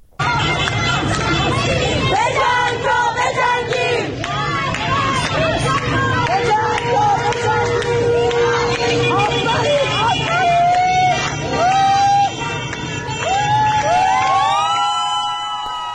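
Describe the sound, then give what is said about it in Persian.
Protesters gathered in the afternoon outside Shariati metro station in Tehran chant various slogans in unison over steady street noise, voices rising and falling in rhythmic bursts, with a constant babble of other voices underneath and loud throughout. “در بیرون از ایستگاه مترو شریعتی تهران هم معترضان بعد از ظهر امروز تجمع کردند، شعارهای مختلف دادند.”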